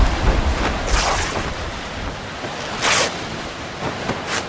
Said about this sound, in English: We've got to get out of this storm. But where? There's nothing but trees for miles.